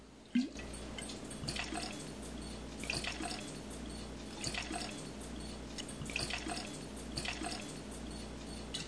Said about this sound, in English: That's a Montgomery. That's 15 to 1. So I'm just going to pour some gin in here.